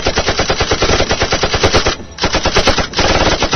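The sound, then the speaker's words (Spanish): Rapid fire from a vehicle-mounted machine gun fed from an ammunition box, in sustained bursts, a dense stream of sharp, loud reports with two brief pauses between volleys. “El arma le permitía un amplio rango de barrido desde allí, y al contar con una caja de carga para la munición, evitaba los problemas de las largas cintas de balas que podían estorbar durante el accionar.”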